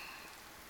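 Steady rain falls in a soft, even hiss, with raindrops pattering on a surface; a brief, fairly quiet stretch with no voices.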